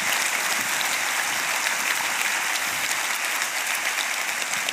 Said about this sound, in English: Isn't that amazing? Now, you can clap for all that, right? So praise God.